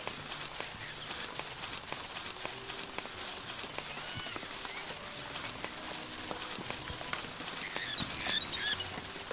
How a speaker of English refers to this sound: Okay, you're going to hear the ambience changing to rain. And that's when I know I'm coming up on the end of this level. 649, zero. That's around 600, I guess, when it switches to rain.